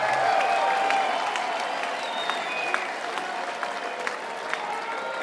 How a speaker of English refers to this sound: Thank you so much. Give yourselves a hand. You guys make the music.